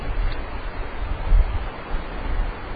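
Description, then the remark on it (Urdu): Water leaking from the ceiling, poured from above as a poisonous termite treatment, comes down in a steady, rushing splatter, continuous, with no talking over it. “اور زیادہ آئے گا, انہوں نے اوپر سے پانی ڈالا ہے, دو تین وہ لے آؤ, کوئی تسلے لے آؤ.”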